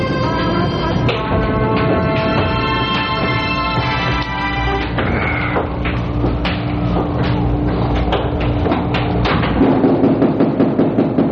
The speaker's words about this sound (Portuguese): Ah, essa chuva danada. Estão batendo a estas horas e com esta chuva.